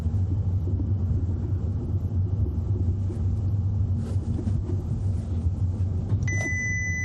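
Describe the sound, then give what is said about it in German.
Steady low rumble of a car rolling slowly at about 28, heard from inside the cabin. Near the end a short electronic warning chime sounds as the car brakes automatically. “Ich fahre jetzt mal so mit solide 28.”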